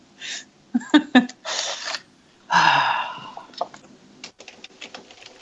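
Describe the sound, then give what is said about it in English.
A printer prints a document in uneven bursts: short mechanical whirs, sharp clicks and a longer grinding feed, moderately loud, with brief pauses between the movements. “I thought I heard a printer.”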